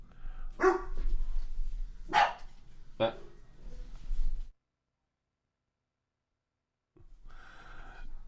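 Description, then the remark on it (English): Dogs bark in a fight inside a house, three loud, sharp barks spaced about a second apart over a low background hum, followed by a few seconds of silence and then faint, muffled activity. “Dog fight in the house.”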